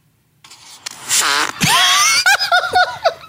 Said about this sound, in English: Again, if you told me 48 hours ago, I was going to say the sentence, Carney Wilson names her farts. You would hear one of my farts, and actually. Now we're going to get to hear. This one is called fuck, because it goes funk. Get ready.